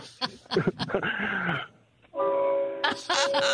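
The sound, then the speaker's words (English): A loud truck horn, sounded by a trucker over the phone, gives one sustained, steady honk lasting over a second, with voices and muffled chatter just before it and noisy rumble joining near the end. “Can you honk your horn for our listeners?”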